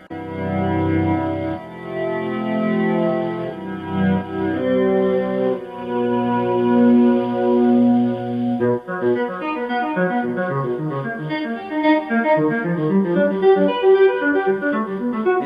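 Electric guitar played as a one-take instrumental solo with volume-knob swells: notes are hammered while the volume knob is worked on and off, so each note fades in without a pick attack, layered with echo into a shimmering, organ-like wash; a flurry of quicker swelling notes follows in the second half, with no voices.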